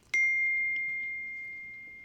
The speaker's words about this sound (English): I put my phone on silent and then it still made a noise. I'm sorry.